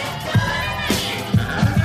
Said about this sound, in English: And then it goes up. There's like people cheering.